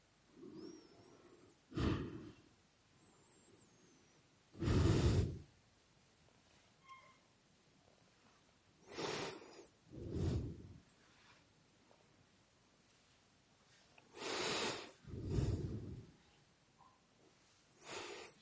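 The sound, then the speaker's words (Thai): Slow breathing during meditation, with breaths drawn in and let out in soft, airy bursts separated by quiet pauses of a few seconds, the breath observed at the nose tip, chest and belly. No one speaks. “เราสังเกตลมหายใจเข้าลมหายใจออกโดยดู3จุดนี้เป็นหลัก”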